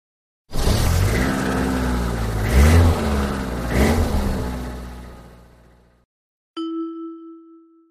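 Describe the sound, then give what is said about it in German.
A car engine runs and revs up twice while driving, then fades out, followed after a short pause by a single clear electronic chime. “Das Auto.”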